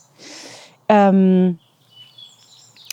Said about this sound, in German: Oh, ist das nicht ein Traum? Könnt ihr die Vögel singen hören? So schön.